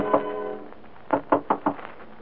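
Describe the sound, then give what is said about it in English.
Four firm knocks on a door in a quick, even rhythm, preceded by a brief tonal note and otherwise quiet surroundings with no one speaking. “being a woman, is still awake, a little dewy-eyed, a little dazed, a little impervious to the knocking on her door that finally rouses her from love's sweet coma.”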